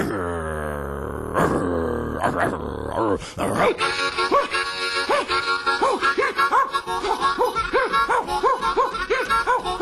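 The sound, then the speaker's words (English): A long, wailing howl gives way to a steady run of loud, rhythmic baying barks from bloodhounds set loose to chase escaping convicts, repeating quickly for several seconds. “Didn't matter how far or how fast they ran, because they turned the dogs loose on them. And you know those bloodhounds were hungry.”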